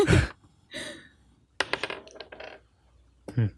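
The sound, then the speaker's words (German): Dice are rolled again during a game and clatter across a hard surface in several bursts of sharp, rapid clicking impacts, with short pauses between them and a final quick rattle at the end; the roll shows a six. “Ich würfel einfach davon wieder.”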